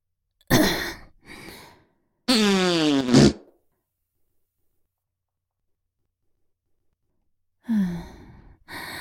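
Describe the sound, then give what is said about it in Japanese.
Several loud farts from a bloated, gassy belly with no talking: two short spluttering bursts, then a longer buzzing, wavering one, and after a long silence a final sputtering fart near the end. “お腹が張って、屁がいっぱい出るわ。”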